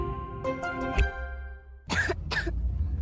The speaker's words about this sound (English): What about my cough? DayQuil Kids has that covered.